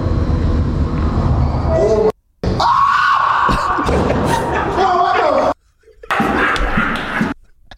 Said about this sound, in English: Scream like one of the women in those scary movies.